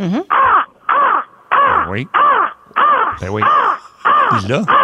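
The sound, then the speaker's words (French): A person imitates a crow, letting out a rapid series of about eight loud, harsh caws in a steady rhythm, with no other talking. “Ben, là, tu peux pas nous appeler puis pas nous faire la Corneille”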